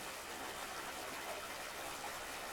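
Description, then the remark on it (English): Steady rushing of flowing river water, not flowing very fast, a continuous even wash of sound with no pauses, moderately quiet and heard alone without any voices. “The water isn't flowing that fast.”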